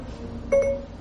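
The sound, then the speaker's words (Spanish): A single short electronic chime as an iPhone's Home button is pressed to activate Siri on iOS 10 rings out clearly over a low, steady background hum. No one speaks. “Por ejemplo, podemos mandar un WhatsApp, como si, por ejemplo, ahorita le vamos a decir a Siri, vamos a presionar el botón Home.”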